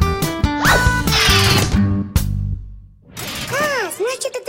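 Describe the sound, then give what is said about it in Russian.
An alarm clock bell rings as its small hammer strikes the bell cup again and again, a rapid, clattering metallic rattle of fast hammer strikes for about two seconds, then cuts off abruptly. After a short pause, voices speak with swooping pitch. “Когда маленькая стрелка доходит до часа, на который установлен будильник, пружина соскакивает с тормоза и начинает крутить шестеренки, а те приводят в действие молоточек, который часто-часто бьет по чашке звонка. Вот откуда берется звон.”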